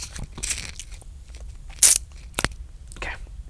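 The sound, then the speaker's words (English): Quiet sipping from a drink, with a few short slurping bursts and crisp crackly noises spread over a few seconds, one sharper slurp in the middle; no one speaks. “Well, let me take a sip here. Here's some ASMR.”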